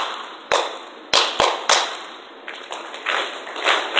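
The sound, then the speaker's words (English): Hands clap out a short, uneven rhythm pattern for listeners to repeat: sharp, bright smacks, a few quick ones and some spaced apart, with softer follow-up claps near the end. No one speaks. “Now, I'm going to clap a pattern.”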